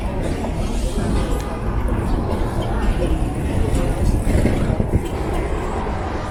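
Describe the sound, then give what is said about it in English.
Steady street traffic at the Powell Street cable car turnaround: a continuous low rumble of passing vehicles and rail noise, with indistinct voices murmuring in the busy background throughout. “This is the turnaround for the cable cars, Powell Street.”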